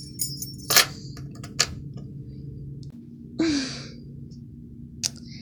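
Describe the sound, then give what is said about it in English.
Keys clink and jingle in a few short metallic bursts as they are set down, with a softer rustle in between, over a steady low hum. “Here, I'll put the keys right here.”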